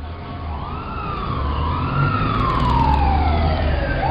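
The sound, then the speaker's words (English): Sirens of an ambulance and a police car wail over steady traffic rumble as they arrive at a car accident near the post office on Charles Street, the rising and falling tones sweeping closer and growing louder as the vehicles approach, with no voices heard. “They're going to send an ambulance and a police car right away.”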